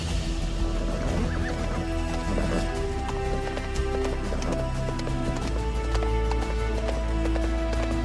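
Rhythmic galloping horse hoofbeats pound along steadily, set against a loud, sustained musical backdrop that fills the whole stretch without pause.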